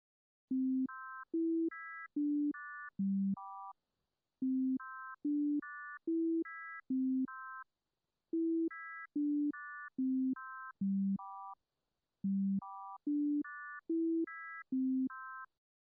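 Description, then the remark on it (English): The Westminster chime melody plays in four phrases of four notes, each note sounded twice: first as a pure sine tone, then as a buzzier complex tone at the same pitch. Steady, clean, no voices. “You will hear the familiar Westminster chime melody played with pairs of tones.”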